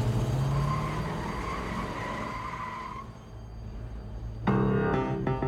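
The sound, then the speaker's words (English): A getaway Buick's tires screech in a long, steady squeal over a revving engine as it speeds away from a bank with hostages standing on its running boards, fading slightly before another loud, blaring burst of sound cuts in near the end. “The gang pulls the hostages to the getaway car and forces them to stand on the vehicle's running boards before the Buick screeches away.”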